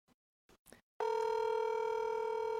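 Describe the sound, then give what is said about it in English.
Three quick beeps, then a steady, unbroken phone tone that sounds loud and constant, like the ringing tone of an outgoing call to the speaker's mother, where it is 7 a.m., just starting on the line. No one speaks. “I'm going to call my mom, see if she might wake up.”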